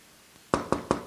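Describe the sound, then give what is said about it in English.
Four firm, evenly spaced knocks on a wooden door, fairly loud, following a brief quiet stretch with no talking. “And he'll knock.”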